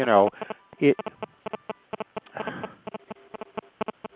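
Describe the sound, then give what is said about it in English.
A cell phone beeps with a notification that new minutes have been added: a rapid, evenly spaced series of short electronic chirps running for several seconds, clear, with a brief bit of voice at the start. “My cell phone is beeping.”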